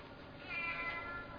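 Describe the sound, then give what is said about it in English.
A single drawn-out meow from a sick cat that has just had kittens, moderately loud, rising and then fading over about a second with no talking. “Father, I think the cat's sick.”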